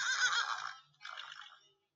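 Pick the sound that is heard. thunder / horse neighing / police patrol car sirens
horse neighing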